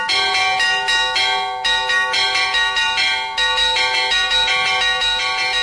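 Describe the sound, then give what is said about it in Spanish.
A church bell rings loudly and steadily as a storm warning toll, with rapid repeated strikes whose bright metallic tones overlap and sustain, forming a continuous urgent toll with no voices present. “Se llamaba con la campana. Y también, por ejemplo, hay un toque cuando hay tormenta.”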